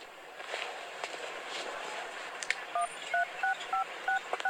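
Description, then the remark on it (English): A phone number being dialed to cancel an appointment: about seven short, crisp keypad tones beep in a quick, fairly even rhythm, sounding over a steady wash of background noise after a stretch of noise alone. “Are you calling an ambulance?”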